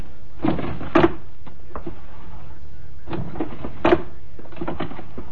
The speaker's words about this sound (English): I went to his desk and started to go through the drawers.